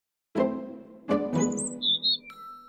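european robin singing

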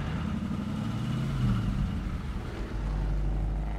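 car driving

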